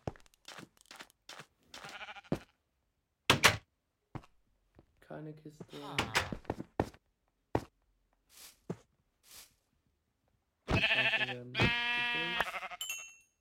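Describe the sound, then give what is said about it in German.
Two loud sheep bleats come right after each other near the end, following brief speech and scattered clicks and crunchy footstep-like taps. “Hier sind auch ein paar Schafe.”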